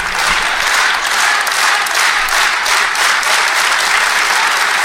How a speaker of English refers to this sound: They're clapping. You're getting a Mighty Ducks clap.